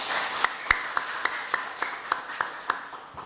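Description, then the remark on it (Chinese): An audience at a lecture on Chinese Buddhism applauds steadily to welcome the main speaker, a dense wash of clapping with a few sharper, louder individual claps popping out at irregular moments. Nobody speaks. “我们以热烈的掌声欢迎我们本次的主讲人”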